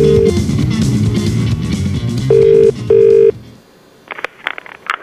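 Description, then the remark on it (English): A telephone ringing tone on an outgoing prank phone call: a steady double ring repeated over background music, then the music drops away to near silence with a few faint clicks. “And that is when I'm going to make my prank phone call.”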